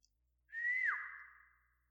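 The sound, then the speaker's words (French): A single sharp, high whistle, blown by a man stopping at the threshold of a library, starts abruptly, holds steady for about a second with a quick downward dip partway through, then tapers off. It's clear, with no other sounds. “s'arrêtant sur le seuil de la bibliothèque, avait lancé un coup de sifflet aigu.”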